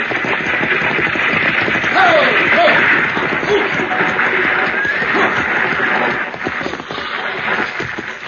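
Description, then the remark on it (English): A six-horse team pulls a stagecoach, hooves clip-clopping in a dense, steady clatter that stays loud throughout, with no voices over it. “Driving a six-horse hitch ought to keep him awake.”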